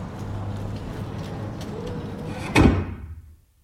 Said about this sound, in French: Je marche, j'ouvre une porte, je ferme une porte. Je ferme la porte à double tour. Je ferme une porte. Je ferme la porte et je m'en vais à pied.